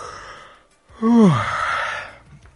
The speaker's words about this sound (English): If you're tired and bored during this podcast, you'll probably be yawning.